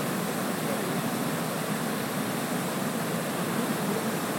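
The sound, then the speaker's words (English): A waterfall crashes steadily into the water, a dense, even roar of falling water that holds constant and close throughout, recorded from a boat almost under the waterfall, with no voices or other sounds. “he's got his sound recording the sound of the waterfall drumming into the water.”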